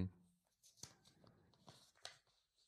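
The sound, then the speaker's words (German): A hand rummages through a lottery drum of paper slips, reaching down to the bottom, producing crinkly rustling with a couple of sharper scrapes as the slips shift and rub together. “So, jetzt wieder ganz nach unten gegriffen.”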